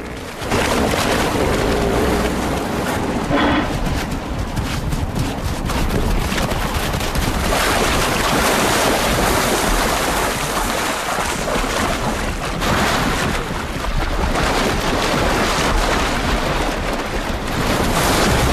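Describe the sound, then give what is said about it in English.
Hippos stampede from the beach and crash into a river after a guinea fowl races towards them, a loud, continuous roar of heavy splashing and churning water with low rumbling thuds, sustained for the whole stretch, no voices. “They stampede towards the safety of the river.”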